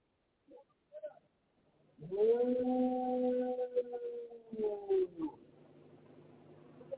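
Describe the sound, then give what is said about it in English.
A dog lets out a long, sustained howl lasting a few seconds, steady and tonal with a slight rise into a second swell, preceded by a couple of brief faint yips, just before an earthquake hit. “That dog knows something is up, and it just kept howling and howling and howling.”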